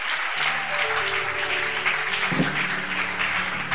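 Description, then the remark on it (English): A crowd clapping steadily, a dense, continuous wash of many hands with faint sustained tones underneath and no speech. “Clap your hands specially.”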